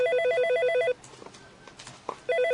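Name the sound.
telephone ringing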